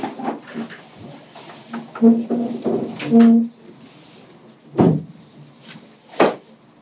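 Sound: door being closed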